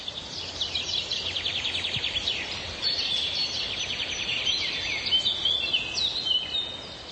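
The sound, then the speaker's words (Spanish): A steady outdoor chorus of birdsong in the wooded palace park of Vlachim, with century-old forests where 63 bird species regularly nest; several birds trilling and chirping at once, continuous for the whole stretch with no voices. “En el Parque Palaciego de Vlachim nidifican regularmente 63 especies de aves.”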